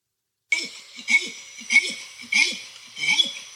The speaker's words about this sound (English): Orangutan. Exactly. Okay. Yeah. An orangutan long call.